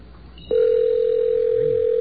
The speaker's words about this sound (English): Does seem to be ringing. What does it say on the screen? It says, it's asking me if I want to answer.